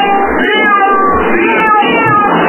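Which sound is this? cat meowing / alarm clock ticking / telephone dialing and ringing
cat meowing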